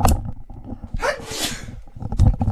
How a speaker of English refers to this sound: Sorry, I had a sneeze going.